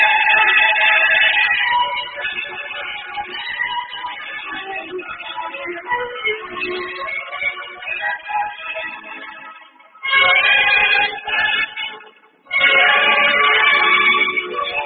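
String orchestra music for a Rheingold Extra Dry beer advertisement, aired during a New York Mets versus Chicago Cubs baseball broadcast, plays on its own, with sustained, layered melodic lines that swell and thin out, briefly dropping to near silence twice before resuming loudly.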